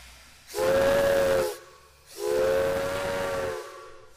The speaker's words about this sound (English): With the pull of some levers, an engineer lets superheated steam into the locomotive's cylinders, and the drive components of the engine slowly come to life, like a waking giant, moving the train down the tracks on puffs of steam and labored chugs,